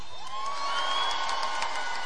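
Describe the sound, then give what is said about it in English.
A live audience in Atlanta shouts out all at once where they're from (states, towns, cities): a jumble of overlapping voices and whoops, steady and fairly loud for a couple of seconds with no single voice standing out. “Before I even get started, where's everybody from? Yell it out, states, towns, cities.”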